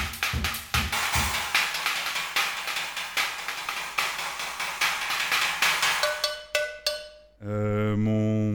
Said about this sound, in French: Et ça, c'est quoi? Une cloche de vache.